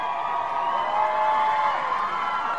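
A large crowd cheers and shouts outdoors in the rain, lining the streets of the town of Monegal, Ireland, to glimpse the visiting president and first lady; a dense, steady roar of many voices blending together without pause, fairly loud and continuous throughout.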